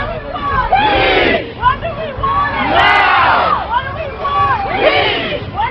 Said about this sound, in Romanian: Vrem pace, vrem pace acum, s-a strigat pe străzile New Yorkului.